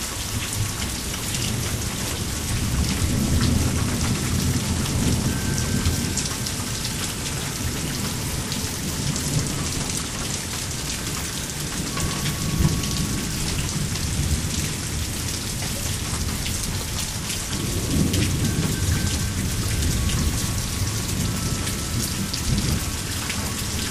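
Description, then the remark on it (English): Steady, dense rain patters and drips continuously off a roof during a thunderstorm with lightning, with low rumbles of thunder swelling in and out beneath it. No one speaks. “All right, we're just listening to the water drip off the roof here.”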